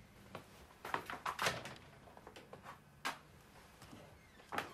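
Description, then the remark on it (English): A man opens a cupboard door in his house with a cluster of wooden knocks and clicks, followed by soft rustling and scattered taps as he hangs his coat inside, then a few sharper clacks near the end. “He opens the door to the cupboard and hangs his coat inside.”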